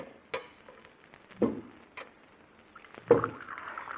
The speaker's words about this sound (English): Shall Alpha serve coffee now? Yes, Alpha. Put it on this table here and pour a cup for Dr. Dale.